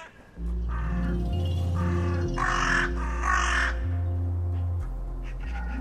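A crow perched on the back of a park bench caws four times in a steady series, harsh, over a low, continuous droning hum. The last two calls are the loudest.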